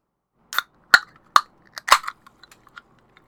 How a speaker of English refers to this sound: And now you can hear me pouring plain soda water into a glass with a little bit of apple juice concentrate at the bottom.